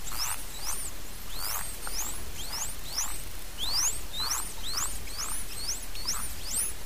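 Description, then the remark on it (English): A dolphin swimming in circles around the recordist gives a rapid series of short rising whistles, each sweeping upward in pitch, while clicking at the same time, emitting a bubble stream from its blowhole with every whistle, over a steady crackle of clicks and underwater hiss. No voices are heard. “Here is an example of a dolphin that was swimming circles around me, whistling and clicking at the same time.”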